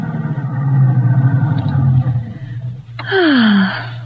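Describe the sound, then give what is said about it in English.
A convertible car with its top down rumbles steadily, then a sudden brake squeal and a falling whine sound out as it pulls into a parking place along a marina by the yacht harbor and comes to a stop. “You know, people probably think we're mad driving around with the top down.”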